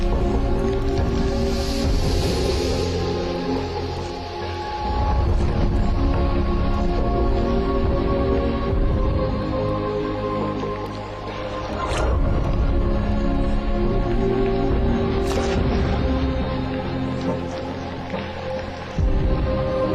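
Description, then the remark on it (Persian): A dense, steady wash of heavy rain pours down continuously on a tropical rainforest in Brazil, loud and enveloping, with a constant hiss filling the whole clip and no voices. “در بعضی از جنگل‌ها مانند اینجا در برزیل انقدر باران می‌باره که در بخشی از سال درخت‌ها تقریباً کاملاً در آب غوطه ور می‌شن.”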